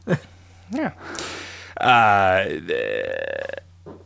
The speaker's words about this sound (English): the fartsy? Yeah. Fart command.